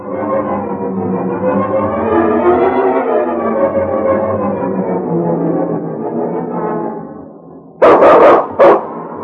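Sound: dog barking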